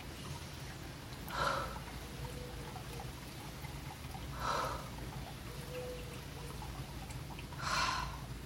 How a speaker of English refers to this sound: Let's go ahead and take three nice deep inhales and exhales right now.